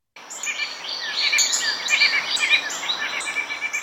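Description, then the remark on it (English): A northern shrike calls in a steady stream of high, rapid chirps and squeaky whistled notes, moderately loud and continuous for several seconds, with no voices. “I wanted to just tell you a little bit about the northern shrike because it is an amazing bird.”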